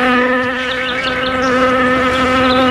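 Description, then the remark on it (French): Bees buzz loudly and continuously, a dense droning hum that wavers slightly in pitch throughout, with no voices present. “Pourrais-je abuser et te demander quelques abeilles?”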